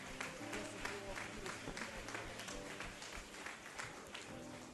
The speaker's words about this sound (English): Praise the Lord. Let's clap our hands and we thank God for today.